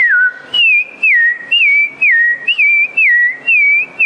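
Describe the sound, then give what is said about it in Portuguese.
A woman, an agronomist, whistles a bird-like song imitating how a rufous-bellied thrush sings in Araci, Brazil: clear, repeated warbling phrases that rise and fall in a steady rhythm with brief pauses, no speech. “Como o sabiá canta em Araci?”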